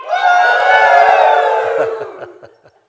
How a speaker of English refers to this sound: Let me hear you cheer a little bit. Come on.